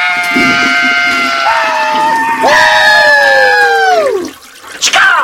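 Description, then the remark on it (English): A long toilet flush with a loud, steady whining squeal over rushing water, its pitch jumping once, then sliding downward before cutting off; a brief splash follows. “We can totally hear the toilet flush”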